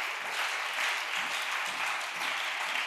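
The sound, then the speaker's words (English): A crowd applauds for Jesus Christ, many hands clapping at once in a dense, continuous patter that holds an even level throughout, with no voices standing out. “Let's clap hands for Jesus Christ.”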